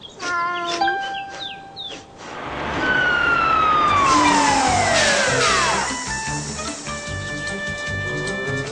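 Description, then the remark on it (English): The siren of a big red fire truck carrying firefighters blares in loudly, its wailing pitch sweeping downward in long arcs after a few brief chiming tones at the start. “sure was excited to see the firefighters in their big red truck.”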